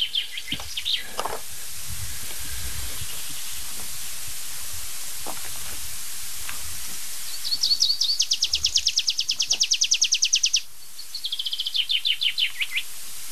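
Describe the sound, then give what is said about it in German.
A tree pipit sings outdoors during its display flight, opening with a few thin notes, then breaking into fast, bright trills of repeated high chirps that speed up and end in a sweet, drawn-out flourish. No one speaks. “Da darf ich euch vorstellen, mein lieber Freund, der Baumpieper.”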